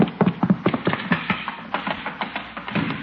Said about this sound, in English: Hey, that sounded like a horse. Chief, who ever heard of a horse in a house?